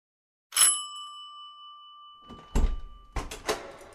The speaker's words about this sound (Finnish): Oskarin ovikello soi.